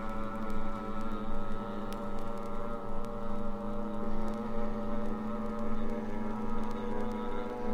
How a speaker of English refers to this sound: Really moving, ain't we? Yeah, we'll be there in a flash. Speedometer broke? Oh, yeah. The old boat really moves out.